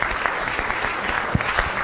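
An audience applauds steadily, a dense wash of overlapping hand claps with a few sharper individual claps standing out, moderately loud and sustained throughout with no voices.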